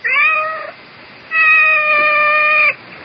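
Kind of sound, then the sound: animal, cat meowing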